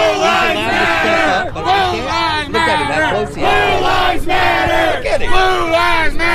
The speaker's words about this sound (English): A group of counter-protesters waited at the park while another followed them back, shouting obscenities at protesters between Back the Blue and Blue Lives Matter chants.